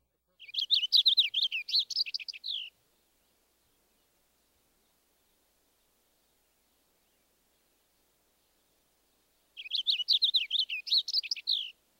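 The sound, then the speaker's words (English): Two bursts of a purple finch's rich, lengthy warble, each about two seconds of rapid rising and falling notes, clear, separated by a long silent gap. “Next, the purple finch.”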